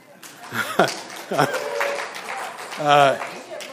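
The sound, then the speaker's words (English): A crowd applauds steadily for a few seconds, a dense patter of clapping with scattered voices and brief laughter mixed in, fairly close and moderately loud. “I'm a little surprised by that as a clapping point, but all right.”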